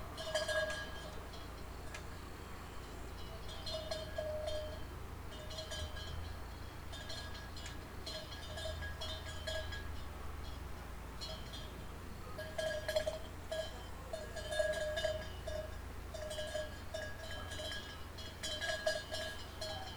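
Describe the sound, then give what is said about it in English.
Irregular metallic clinking of bells on the neighbor's goats jingles in scattered bursts over a steady outdoor hum as the goats frolic in the yard. No one speaks. “As you leave the house, you can hear the bells of the neighbor's goats frolicking in the yard.”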